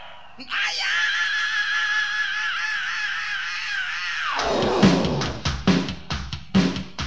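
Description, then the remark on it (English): A crowd lets out a loud, sustained scream for about four seconds, then it breaks off into scattered shouts and voices talking. “And you're gonna scream.”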